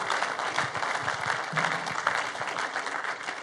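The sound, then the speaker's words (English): An audience breaks into steady, dense applause to welcome first-time visitors, many hands clapping at once in a continuous crackling wash that holds fairly even in loudness throughout, with a faint murmur of voices underneath. “And we do that around here by clapping for you, because we just like to honor you.”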